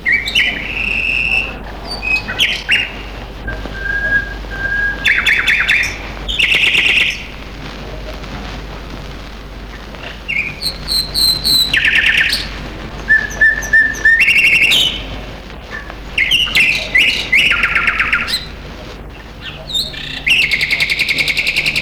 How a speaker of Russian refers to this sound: Эта песня записана в Семиречье, в речных зарослях, тугаях. Соловья, который сейчас поет, так и называют – тугайны.